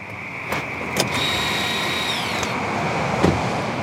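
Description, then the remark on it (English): Fensterer's car, carrying a bucket of collected frogs, drives a short trip with a steady engine and road rumble, a thin high whine rising over it midway, and a few sharp clicks and knocks scattered throughout. No one speaks. “After a couple hours, the team gathers up the handful of frogs they've collected and loads the bucket into Fensterer's car for the short trip to the other side.”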